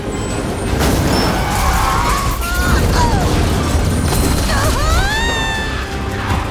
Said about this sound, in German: Schlitternd und quietschend kommen Bahn und Edda kurz vor der Zuschauertribüne zum Stehen.